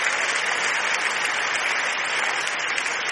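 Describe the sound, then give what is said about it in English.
A standing church audience claps hands in praise, many hands clapping at once in a dense, continuous wash of sound that stays loud and even throughout, with no voices standing out. “Please stand, please stand, please stand. Come on, clap your hands and give God a praise.”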